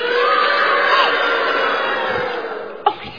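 A loud, steady wash of applause and cheering from the studio audience of the show Zoomerang, given on cue after a 3, 2, 1 countdown, with scattered whoops, sustained for a few seconds before tapering slightly, with a sharp shout near the end.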